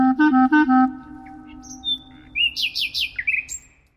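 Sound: nightingale singing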